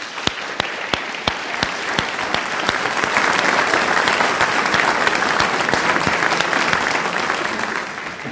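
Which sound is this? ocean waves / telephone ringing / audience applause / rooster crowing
audience applause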